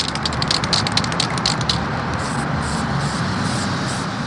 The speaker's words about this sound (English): On this day, Tom uses a can of spray paint to brighten up the playground equipment on Pittsburgh's north side.